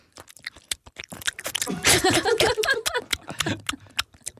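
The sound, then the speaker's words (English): Rapid, nonstop nervous gum chewing with sharp wet smacks and clicks, thickening into a dense, squelchy flurry midway before settling back into quick steady chomps. No one speaks. “you have a very different and unique technique of chewing gum”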